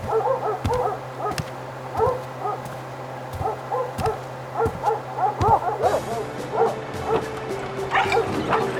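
Several dogs bark repeatedly outdoors in a yard, sharp yips and woofs overlapping at an uneven pace, moderately loud with a steady low hum in the background.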